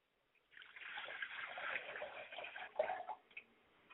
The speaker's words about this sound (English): Ladies and gentlemen, join me as I do libation. I pour a glass of water to my Father Spirit and I say, Ashe. I pour a glass of water to my Mother Spirit and I say, Ashe.